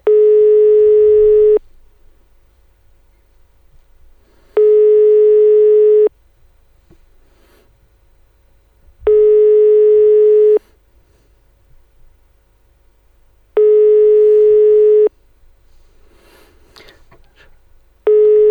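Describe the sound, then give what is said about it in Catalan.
A telephone ringback tone on an outgoing call to a listener's real phone number, made during a live radio broadcast: a steady, fairly loud buzzing tone in long pulses of about a second and a half, each followed by several seconds of quiet, repeating four times with no talking. “Esteu trucant a números de veritat?”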